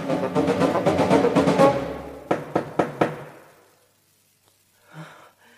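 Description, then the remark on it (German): Three firm, evenly spaced knocks on a wooden door ring out, following a stretch of busy rustling movement, and a soft breath is heard afterward. “Der Wolf aber lief derweil geradeaus zu dem Haus der Großmutter und klopfte an die Tür.”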